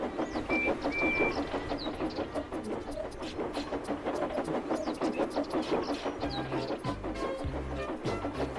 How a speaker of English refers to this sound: What kind of train would give them comfort? Ah, here it comes now.